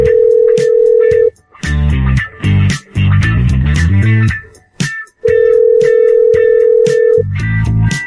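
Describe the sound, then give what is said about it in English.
An outgoing phone call, made to return a call, rings through the line: two long, steady electronic ringback tones, each lasting a second or two, separated by busy, melodic electronic tones. No one speaks. “Let's call them back.”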